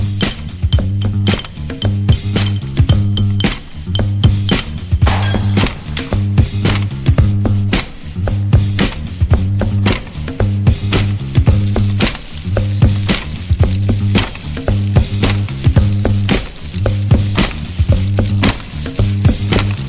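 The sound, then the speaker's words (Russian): A mop scrapes rhythmically under a cupboard, its gritty swishing strokes repeating in a steady loop over a low droning pulse, loud and with no talking. “Еще один чисто под ритм шарудит под шкафом шваброй.”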